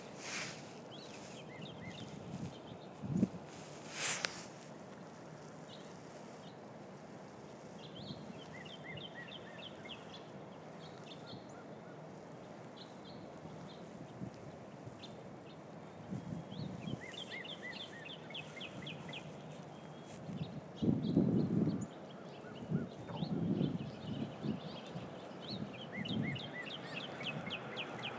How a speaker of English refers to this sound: As I stand here again waiting for my bus, I hear all kinds of birds this time and can't help think but that spring really is just around the corner.